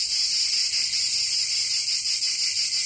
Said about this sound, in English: It's the cicadas.